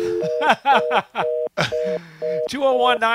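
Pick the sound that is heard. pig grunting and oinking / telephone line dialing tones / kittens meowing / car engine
telephone line dialing tones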